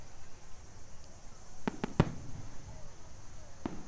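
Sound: fireworks exploding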